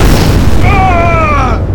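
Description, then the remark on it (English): A loud, rumbling sci-fi explosion hits a spaceship, roaring steadily for nearly two seconds, with a thin whining tone sliding slightly downward through its middle before the blast fades. “I had been hit by that last explosion.”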